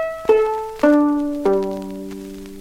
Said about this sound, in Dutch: Die viool is gelukkig nog heel. Even kijken. Ja hoor, alle snaren zitten er nog op. Luister maar.